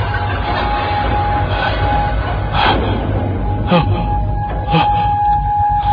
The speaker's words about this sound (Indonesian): Dan kereta api itu pun lewat di depan.